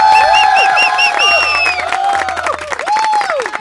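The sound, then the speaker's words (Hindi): A crowd bursts into loud, sustained applause for everyone on a 93.5 Red FM radio show, dense clapping mixed with cheering, high whistles and excited whoops rising and falling throughout. “एक बार जोरदार तालियां सबके लिए यार, मेरे लिए भी प्लीज।”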